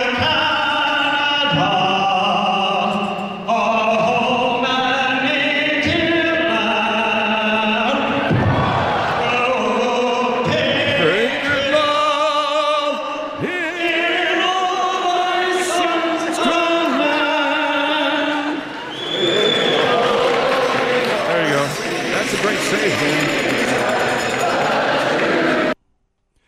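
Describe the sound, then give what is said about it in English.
A large arena crowd at a Vancouver Canucks hockey game sings the Canadian national anthem together, loud and sustained, with many voices blending into long held, echoing notes that keep going until the sound cuts off abruptly. “Got everybody to sing it. Yeah, everyone in the crowd sang it.”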